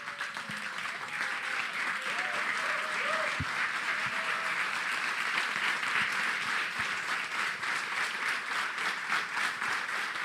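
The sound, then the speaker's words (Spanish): A church audience, asked to stand and give Jesus a loud round of applause, claps steadily for about ten seconds: a dense, even wash of many hands clapping, with a few faint voices and brief low thumps mixed in. “¿Por qué no te pones de pie y le das un fuerte aplauso a Jesús?”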